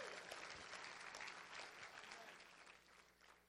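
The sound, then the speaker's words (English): An audience claps hands together in praise, a dense, steady wash of applause for a few seconds, fairly loud and continuous with no speech over it. “Come on, you ought to clap your hands for him today.”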